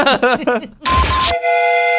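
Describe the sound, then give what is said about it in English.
A brief voice opens, then a rushing burst of rumbling noise gives way to a loud, steady multi-tone train horn blast that holds to the end, a sound effect for the the host's Train of Thought segment on Alice 105.9. “You've just bought a ticket on …'s Train of Thought.”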